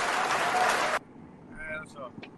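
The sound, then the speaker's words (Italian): A burst of loud audience applause, dense and crackling, lasts about a second and then stops abruptly; faint voices follow in the quiet afterward. “Ma l'applauso si può fare un po' più lungo per cortesia?”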